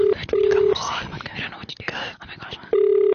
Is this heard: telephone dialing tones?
yes